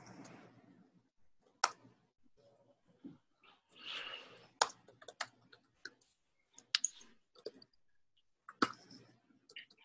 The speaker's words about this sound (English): Well, I was already typing the commit comment, so whoosh.